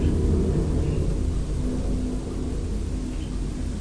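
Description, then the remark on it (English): A white and green bin lorry collecting bin bags, its engine rumbling steadily, a deep, loud, continuous drone with a broad hiss on top, holding even throughout with no voices. “Hello, truck. Big steps on it.”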